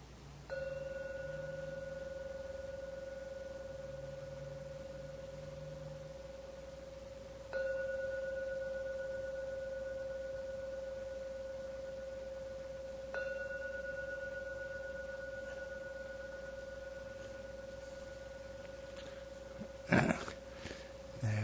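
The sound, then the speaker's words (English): A meditation gong is struck three times to end a meditation session, roughly six seconds apart, each strike blending into a steady, sustained ringing hum, followed by a brief rustling knock at the end. “Unfortunately, I have to ring the gong now, so please listen to the ringing of the gong 3 times.”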